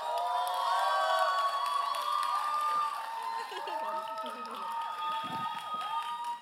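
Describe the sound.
A crowd at a Camino de Vida event cheers and claps steadily for several seconds to welcome a speaker, with whoops and shouted voices rising over a continuous wash of applause that eases slightly midway but stays lively.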